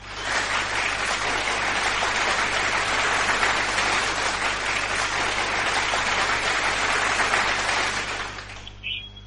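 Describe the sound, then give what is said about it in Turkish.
Sustained applause from a large crowd, dense and steady clapping for about eight seconds before quickly tapering off, with a faint tone at the very end. “İşte böylesi alkışlar size gelsin canlar, can dostlar.”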